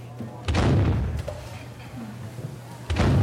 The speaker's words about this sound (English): Another cannon. Another. The office becomes a naval war zone, and the engineers bathe in the percussion, high-fiving while calling out higher and higher download numbers.